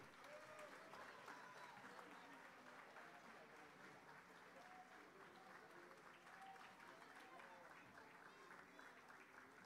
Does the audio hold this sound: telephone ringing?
no